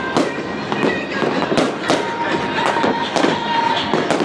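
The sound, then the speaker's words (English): Fireworks fire off at an Illinois versus Wisconsin college football game. They crack and boom repeatedly in quick succession, with sharp bursts every half second or so over a dense, noisy background. Fairly loud, with faint crowd murmur. “These fireworks, they're kind of firing off, but scaring me a little bit.”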